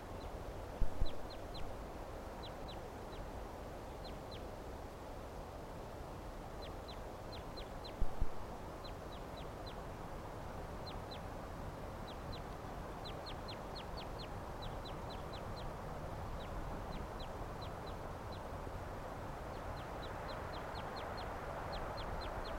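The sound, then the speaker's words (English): A Cooper's or sharp-shinned hawk cackles in repeated bursts of quick, sharp, high-pitched kek notes throughout, fairly faint over a steady low rumbling background, with no talking. “Recording, there's a hawk here. Cooper's are sharp-shinned, cackling there.”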